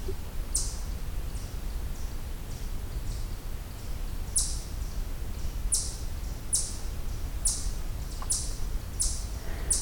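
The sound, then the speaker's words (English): An eastern chipmunk gives a series of sharp, high-pitched chip calls, a few scattered at first and then repeating in a steady rhythm of roughly one per second over a low background rumble. “So this is specifically eastern chipmunk, but there are a lot of chipmunk species in the west as well.”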